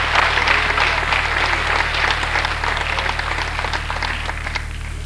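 A church audience bursts into sustained applause, a clap offering to the Lord during a sermon, many hands clapping densely and loudly for several seconds in steady, overlapping claps.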